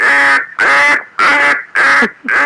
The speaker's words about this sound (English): What the hell is that? Duck.